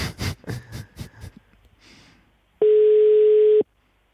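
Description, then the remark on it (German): A short burst of clicking and rustling handset noise, then a single loud, steady telephone tone that holds for about a second before cutting off into silence, as on a failed call. “Nein, das hat offensichtlich nicht geklappt, obwohl wir verabredet sind.”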